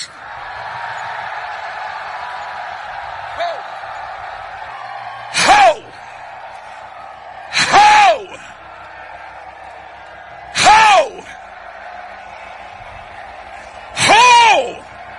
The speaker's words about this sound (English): Every man in the building, on the count of three, release a shout to God. Wait. Like you shouting for your house. Like you're shouting for your business. Like you're shouting for your village. 1, 2, 3.